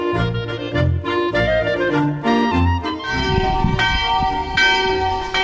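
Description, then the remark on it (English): A chapel bell in the little village of Salisberg, at about 850 meters in central Switzerland, rings loud, struck repeatedly in a steady rhythm, each peal overlapping the lingering hum of the last. No voices are heard. “Well, that unmistakable sound of a chapel bell is just behind me.”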